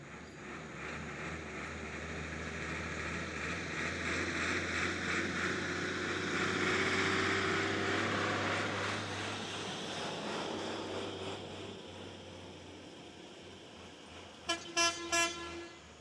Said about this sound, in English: In Madhubani, it's a dusty patch of cracking concrete next to the railway station. Day and night, dilapidated buses somehow pull out of here on their way to Nepal or Darbhanga or Patna